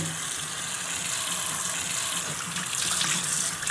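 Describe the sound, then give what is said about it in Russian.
Water pours steadily from a tap in a home in the Traiano quarter of Naples, Italy, a continuous bright hiss with a faint splashing texture, holding an even level throughout with no voices. “Смотри, не набрызгай, а то мама рассердится.”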